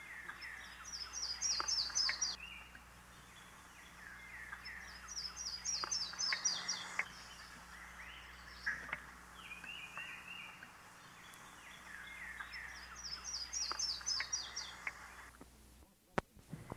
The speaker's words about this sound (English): The yellow-throated warbler, too, sings from pines.